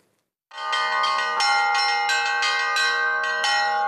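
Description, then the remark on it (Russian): Festive church bells peal from the belfry of the Assumption Cathedral in Penza, Russia, during a Bright Week (Easter) service, after a brief silence, several bells struck in a lively overlapping rhythm with strong ringing overtones, loud and sustained, no voices. “По окрестностям разносится праздничный колокольный звон.”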